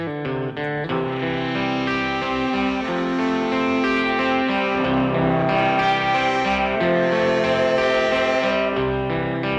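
A rock song plays steadily and loudly throughout, with thick, distorted electric guitar chords filling the mix and a driving, continuous band sound, with no one talking over it.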